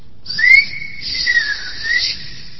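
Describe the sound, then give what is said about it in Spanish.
A single sustained human whistle calls out, rising at the start then holding a bright, wavering tone for about two seconds, clear with no talking. “Antes muchos novios, un poco machistas hay que conceder, llamaban a su novia con chiflidos.”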